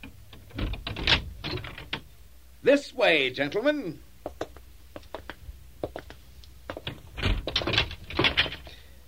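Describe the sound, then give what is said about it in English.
Sharp metallic clicks and rattles, like a key working a lock, give way to a drawn-out wavering creak of a heavy door to a treasure house swinging open as a servant unlocks it, with a man speaking briefly. “Lackey, unlock the door to my treasure house.”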